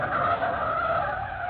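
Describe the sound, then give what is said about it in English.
Car tires skid hard to a sudden stop as reporter Mike Axford, driving up 3rd Street and slowing for a stoplight, brakes; a loud, continuous screech of rubber on pavement lasting over a second with no voices present. “Meantime, Mike Axford, reporter on the Sentinel, drove his car up 3rd Street and was slowing for a stoplight.”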